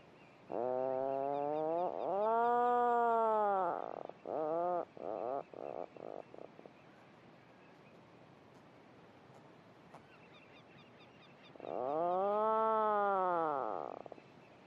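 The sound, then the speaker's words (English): Puffins call and answer each other from below the surface within their burrows, giving deep, rolling, motorbike-like droning calls: two long moaning groans, then a stuttering run of short pulses, a quiet pause, and one more drawn-out groan over a soft background hiss. “all this honeycomb effect of birds calling and answering to each other from below the surface and within their burrows with this lovely, deep, rolling motorbike droning sound, which again they call and listen for a reply from their neighbour.”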